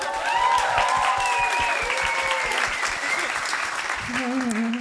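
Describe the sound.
An audience claps steadily in dense, fast applause for a dad in the audience, lasting several seconds, with voices calling out and chattering over the clapping throughout.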